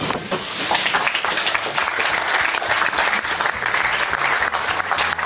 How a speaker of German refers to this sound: Ein bisschen lahm war dieser Applaus damals bei der Verkündung, dass Deutschland die EM bekommt, aber es wird eben nicht ganz so hoch gechest wie bei FIFA-WMs, das muss man dann doch sagen.